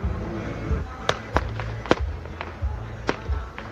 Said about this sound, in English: A mini fireworks show marks a fourth night on the streets for the opposition.